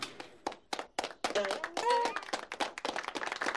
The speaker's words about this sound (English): How are we clapping? I have no idea.